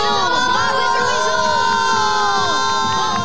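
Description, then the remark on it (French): A large crowd cheers and shouts loudly and steadily, applauding a swimmer for an exceptional feat, with many high excited voices, whoops and applause blending into one sustained roar for a few seconds. “Et on applaudit bien fort cette courageuse nageuse pour cet exploit exceptionnel.”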